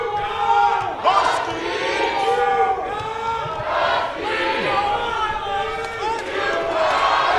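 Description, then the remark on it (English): A large crowd of college basketball fans cheers and chants "Let's go Boilers!" in unison, a loud, sustained roar of many voices rising and falling in rhythmic waves throughout. “Listen to these fans.”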